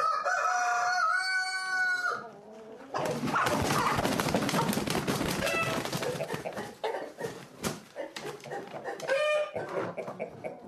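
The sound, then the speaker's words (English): A rooster crows loudly with a long, harmonic call at the start, then a dense flurry of chickens clucking and squawking follows, with another crow breaking through near the end, as championship chickens are loaded into crates, a cock and a hen in each crate. “It's not as easy as you might think, you know, loading up championship chickens.”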